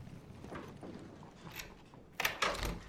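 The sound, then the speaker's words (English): A few soft steps along a hall over a low hum, then a man lets himself into his apartment, the door opening and shutting with two sharp clunks near the end. “Ryan walks along the hall and lets himself into his apartment.”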